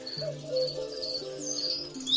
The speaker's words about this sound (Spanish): Pero ya hay algunos grillos.